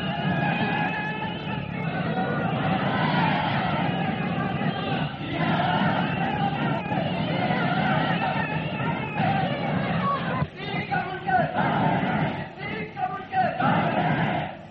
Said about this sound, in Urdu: نعرہ اول تو ضرورت نہیں، صبر، اول تو نعرے کی ضرورت نہیں، لیکن اگر نعرہ لگانا ہے تو وہ موقع محل سے لگاؤ، کسی طریقے سے لگاؤ، کوئی ادھر سے بولتا ہے کوئی ادھر سے.